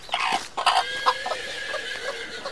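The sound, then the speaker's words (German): Chickens cluck in a busy, overlapping chorus of short, nasal calls, some rising into higher squawks, repeating irregularly throughout with no voices, in a hen house on a farm. “Die Hühner haben ja eine richtige Leiter zu ihrer Eingangstür.”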